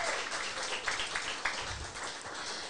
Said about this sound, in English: Yes, another round of applause.